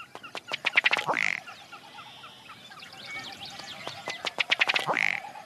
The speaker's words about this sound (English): A ruddy duck.